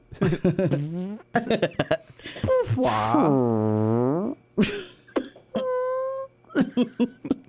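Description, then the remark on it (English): A person makes a run of mouth-made fart noises: short sputtering bursts, then a long wobbling blat, and more quick toots. They are fairly loud, mixed with chuckling vocal sounds. “That's probably because I'd be off camera trying to make fart noises or something.”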